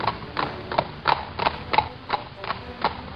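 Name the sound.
horse hooves clip-clopping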